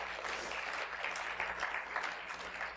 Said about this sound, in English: And I actually have to ask you to give a round of applause to the people working so hard on that.